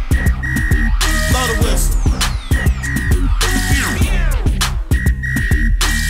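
A shrill, sustained whistle tone repeats in bursts over a loud, bass-heavy hip-hop beat, cutting in and out with the rhythm of the track.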